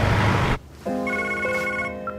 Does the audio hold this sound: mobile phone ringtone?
yes